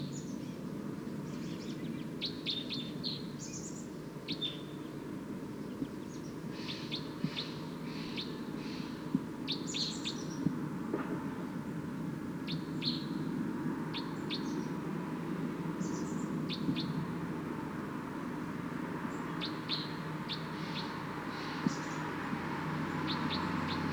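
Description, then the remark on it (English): A wild bird near decoys and a net calls loudly and repeatedly in short, high chirping bursts over a steady low hum and rustling background noise, with no voices present. “It's recording wild bird pretty loud now.”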